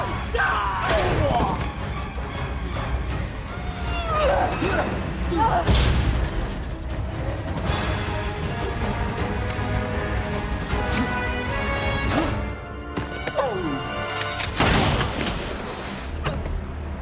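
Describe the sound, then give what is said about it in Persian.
Several loud gunshots from a shotgun ring out at irregular intervals, each a sharp blast with a short tail, amid shouting voices, clattering noise and a constant rumbling background. “آخرین بار کی برای شلیک امتحان شده؟”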